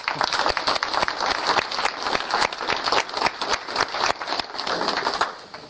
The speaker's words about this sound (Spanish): Vamos a dar un aplauso al grupo de San José, ¿no?